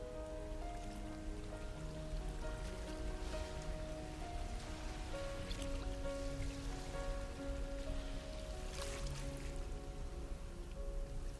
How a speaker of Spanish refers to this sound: Escucha el sonido del mar.